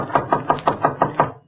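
A quick, even series of about seven knocks on the door of room 12 in an old building called La Casa Azul, each a dull, hollow rap at a steady pace, fairly loud with no voices.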